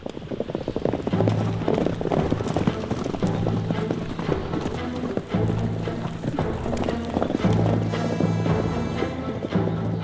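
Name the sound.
horse hooves clip-clopping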